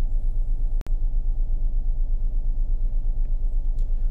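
A steady, deep low-frequency rumble fills the interior of a car during a break at work, constant, broken only by a brief click and momentary dropout early on. No one speaks.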